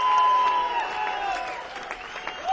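audience applause and cheering

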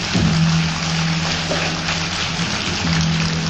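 audience applause

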